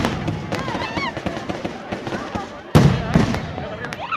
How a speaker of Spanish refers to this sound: Los cohetes hacen vibrar el piso, mientras que el firmamento se cubre de formas iluminadas que parecen caer sobre los espectadores. De hecho, alguito cae.